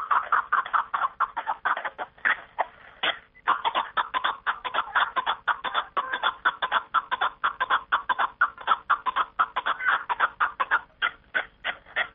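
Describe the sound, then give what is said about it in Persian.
A mountain partridge (kapk) calls in a steady, rapid run of loud clucking notes, repeating without pause for several seconds, with no talking. “از این رو آنها می گویند زیب کوهساران کپک است و خوانش آن که دره و بیش از آدران را آدم و تاز است و خوانش و خیرامش زیب و جلوه می دهد بیننده را یک کیفیت خاصی گوارای می بخشیده است.”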